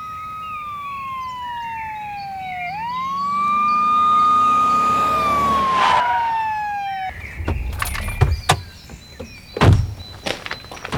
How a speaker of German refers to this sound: Da kommt ein Streifenwagen.